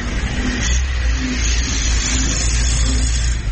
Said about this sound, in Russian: Человек подошел, интересуется, вот мы на заправке. Ну, машин хватает, едут. Ну, в принципе, тут все видно.